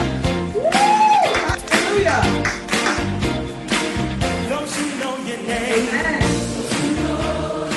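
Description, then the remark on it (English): An audience at a church service stands and claps and cheers loudly and steadily throughout, with scattered shouts and a rising-and-falling whoop early on, and a mix of voices carrying through the applause. “Give a shout, give an applause, a round of applause”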